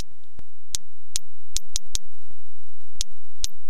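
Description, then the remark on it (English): Sharp, sparse whale clicks tap out an uneven, Morse-code-like pattern, about eight or nine crisp pulses in a few seconds, some grouped in quick runs, over a faint low background hiss. “Those are whales singing. Some of their songs are operatic. Some sound more like Morse code.”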